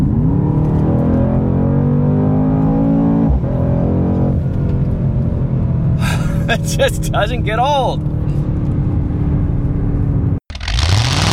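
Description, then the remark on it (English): The engine of a rear-wheel-drive AMG Mercedes car roars and revs continuously, its pitch climbing and falling through several gear changes, with tire screeching at times and a man briefly speaking over it before it cuts off. “And I love the fact that this is an AMG Mercedes that is only rear-wheel drive.”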